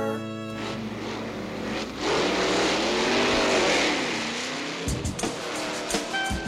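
Stock car race cars roar past at high speed, engines whining loudly with a rising and falling pitch as they sweep by, followed by a few more cars buzzing through near the end.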